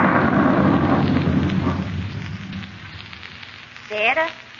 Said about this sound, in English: I don't like storms.